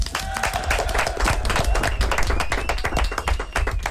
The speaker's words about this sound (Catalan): Vinga, molt bé, un aplaudiment.